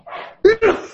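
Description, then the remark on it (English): A person sneezes once: a soft breathy intake followed by a sudden, loud, voiced burst that cuts off quickly. “Bless you.”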